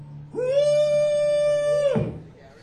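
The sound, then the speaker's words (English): A single long, high vocal holler imitating a call to cows, the kind used in wintertime on a cattle ranch in Carroll County, Mississippi, to bring the cows over to the hay: it rises quickly to a steady, loud pitch, holds for about a second and a half, then breaks off with a short drop. “And in the wintertime, we had to call the cows over to where the hay was.”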